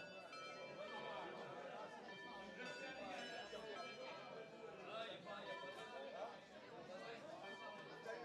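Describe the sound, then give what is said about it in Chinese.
A roomful of students chatter noisily in a classroom after the bell has rung, all at once, overlapping voices forming a steady, busy babble that stays loud for the whole stretch with no single speaker standing out. “为什么还在吵闹？不知道上课了吗？”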